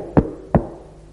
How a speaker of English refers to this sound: And he climbed up the hill of Mount Zion. It was all shining beautiful before him there. And he tapped on the door.